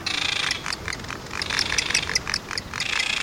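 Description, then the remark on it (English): A dense colony of seabirds at Palmyra Atoll, a ring-shaped island in the South Pacific 1,000 miles south of Hawaii, shrieks continuously, harsh strident calls overlapping in rapid bursts with no pause, steady in loudness. “Strident calls of seabirds fill the salty air at Palmyra Atoll, 1,000 miles south of Hawaii in the South Pacific.”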